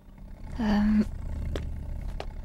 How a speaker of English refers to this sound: I've caught the flu, the lion roared. Can someone help me, please?